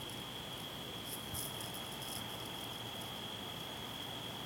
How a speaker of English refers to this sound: The sound of nothing but crickets. If you live in like the country, you know what I'm talking about, but it is so peaceful here.